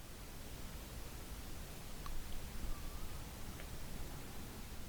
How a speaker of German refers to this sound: Du spürst den Sand unter deinen Füßen, der immer noch angenehm warm ist vom Sonnenschein des Tages. Und du kannst das Rauschen des Meeres hören.